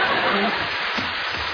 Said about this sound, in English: the lentils are dripping out all over the stairs.